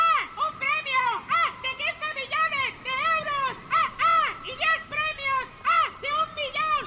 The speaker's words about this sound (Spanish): Si este verano estás mirando el mar, pasa una gaviota y oyes...